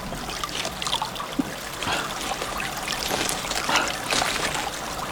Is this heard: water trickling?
yes